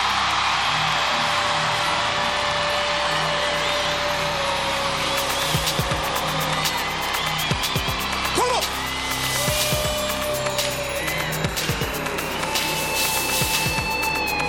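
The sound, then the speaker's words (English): A dense, loud wall of crowd noise from an audience shouting and cheering in worship, with scattered sharp bursts and voices overlapping continuously throughout. “make some Holy Ghost crazy noise right now.”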